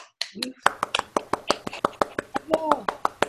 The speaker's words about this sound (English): So again, bravo winners de JTTP. Ouais. On pourrait toutes les applaudir ensemble.